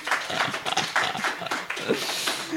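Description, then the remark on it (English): A round of applause from a group, many overlapping claps forming a steady, dense patter that stays fairly loud and even throughout, with no voices. “We're going to give him a round of applause.”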